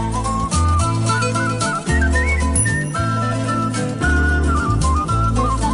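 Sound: human whistling a tune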